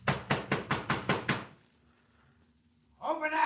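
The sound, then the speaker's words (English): Seven heavy, rapid blows pound on a wooden door in a steady rhythm, loud, followed by a brief hush before a man's voice starts speaking. “Open up this door.”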